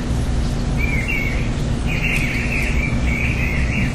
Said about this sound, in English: They also include, this is a bird collar, so in case there's a bird out there, they can play the sound.